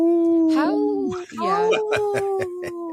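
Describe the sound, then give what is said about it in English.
On a radio show, a man's voice mimics a wolf howl to say no to wolf hunts in Minnesota, a sustained, wavering tone that rises and falls over a few seconds, loud, with breathy bursts as it ends. “So I speak wolf. When I say no, I go,”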